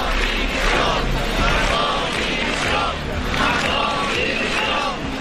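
A large crowd shouts protest chants of "Mazón dimisión" in steady, repeated rhythmic bursts, a loud dense roar of many voices with no pause for the whole stretch.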